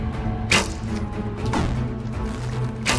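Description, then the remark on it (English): Three sharp arrow shots from archers aiming at targets snap out about a second apart, each a quick whooshing thwack, over a steady low background hum with no talking. “Oh, Triple Heiser almost hit his target in the first shot.”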